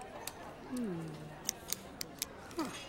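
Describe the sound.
Small plastic clicks and snaps of a four-color pen being taken apart, five or six sharp ticks spaced irregularly, with a brief murmuring voice near the start.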